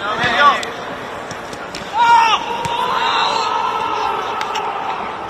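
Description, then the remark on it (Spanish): Real Madrid midfielder Eduardo Camavinga cries out in pain in two loud, strained bursts, the second longer and higher, as he injures his knee in a challenge with Tchouaméni at training the day before a match. Heard over a steady background of outdoor noise with scattered sharp thumps and other voices. “Esos gritos son de Eduardo Camavinga, porque en esa acción se lesionaba de la rodilla.”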